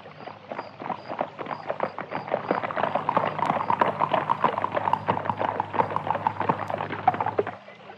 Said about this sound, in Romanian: Când tocmai da să plece, fata zări gonind năvalnic dintr-un luminiș o caleașcă de poveste.